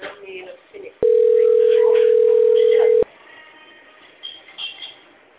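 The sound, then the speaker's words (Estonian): A single loud, steady telephone ringing tone on one mid pitch, from a call to the Oltress sales department, lasts about two seconds, with faint murmuring voices before and after it. “tere , olete helistanud Oltressi müügiosakonda . Hetkel on kõik liinid hõivatud , jääge palun ootele .”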